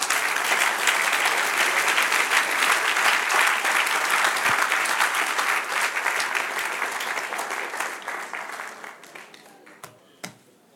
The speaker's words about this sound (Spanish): Dar un aplauso al que reina.